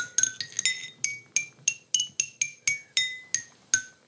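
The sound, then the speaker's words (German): Stones picked up from a scree slope, struck like a lithophone: about fourteen bright, ringing strikes in an irregular rhythm, each with a clear high pitch that varies from note to note and decays quickly. No voices. “Also die Steine kollerten darunter und haben eine eigenständige Musik gemacht. Und ich habe die aufgehoben und habe sie angespielt.”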